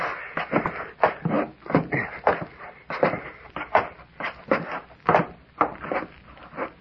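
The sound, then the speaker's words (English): A wooden trap door is opened and people climb up through it, a run of irregular creaks, knocks and shuffling steps on wood, with no voices. “Hey, the trap door's unfastened. Yeah, it seems to be. Up we go.”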